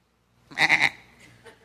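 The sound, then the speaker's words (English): A person imitates a sheep with a single loud, quavering bleat, a wobbling "baa-a-a" lasting about half a second, followed by a faint breathy trail. “I'm sorry, every time I think about sheep, I think of Goat Boy from Saturday Night Live.”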